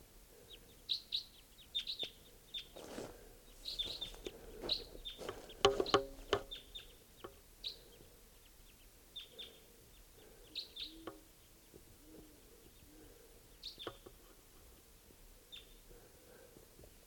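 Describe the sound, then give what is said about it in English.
Sharp, high chip-like calls of two wild type 2 red crossbills flying over at about 5:21 a.m., repeated in scattered bursts, with a few other faint bird notes and low background hum; no talking. “I hear wild type 2s coming in.”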